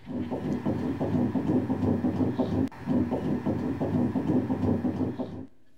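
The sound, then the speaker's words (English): A fetal heartbeat on an ultrasound recording of an expected first child: a fast, steady, loud galloping whoosh-whoosh, with one brief interruption partway through before the rhythm resumes. No one speaks. “That's the heartbeat. That's my grandchild.”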